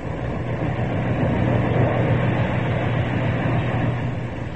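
A steady, loud mechanical drone of a ship's heavy engines running continuously in the engine room, with a deep low hum and broad rumbling noise that holds constant throughout, no voices present.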